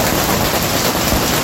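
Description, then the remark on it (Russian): Hailstones the size of pigeon or chicken eggs pour down in the urban-type settlement of Kizner, Udmurtia, Russia, in a dense, steady roar, a continuous loud clatter of countless impacts with no pauses and no voices. “Сильнейший град прошел в ПГТ Кизнер.”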